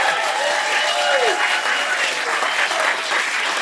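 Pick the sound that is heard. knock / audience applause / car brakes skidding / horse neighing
audience applause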